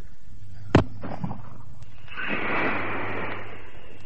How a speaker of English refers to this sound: Now, let's fire this flare.